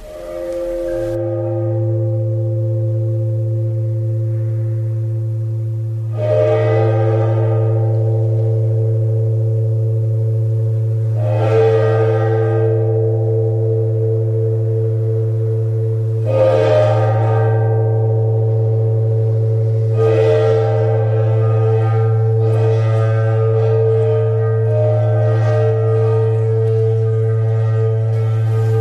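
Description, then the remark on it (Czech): An aquarian bell instrument rings with a deep, steady humming drone, struck about every four to five seconds with shimmering, overtone-rich metallic tones that swell and linger, loud and continuous with no voices. “Takže takhle zní vodnářský zvon.”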